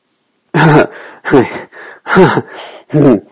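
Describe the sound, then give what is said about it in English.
A person growls in four rough, throaty bursts at a steady pace, each trailing off into a breathy exhale. The growls are fairly loud, with no talking. “You suddenly stop and I'm growling because I want you to keep going, but you just shake your head at me.”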